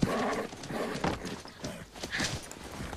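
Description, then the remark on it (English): Loud clattering of hooves from a scared wild black Mustang mare, about two years old, going through the opened gate of a small white corral, in an uneven, scrambling rhythm, with a brief whinny rising partway through amid scuffing and thumps. “That's the wild horse! Isn't she beautiful?”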